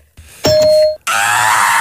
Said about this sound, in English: you're going to hear like a ding to signify the start of the 20 seconds